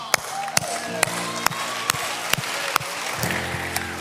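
An audience claps in a steady, even rhythm, about two sharp claps per second, over a sustained background of crowd noise and low tones.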